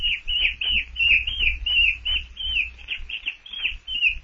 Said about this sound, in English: Oh, a monkey!